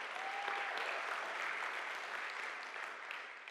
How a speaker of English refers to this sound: Let's give him a round of applause and thank him.